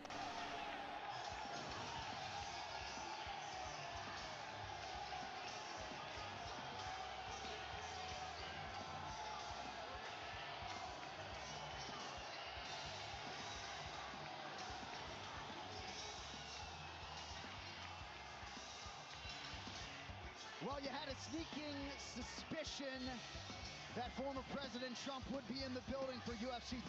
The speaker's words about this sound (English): Boy, the round of applause he's getting right now is pretty staggering.